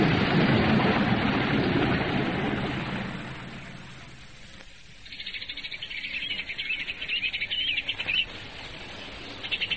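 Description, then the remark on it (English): A steady rushing wash fades out, then a busy chorus of birds in ornamental trees after rain bursts in, many chirps and trills overlapping continuously, with no voices. “The birds in the ornamental trees were crazy with song after the rain.”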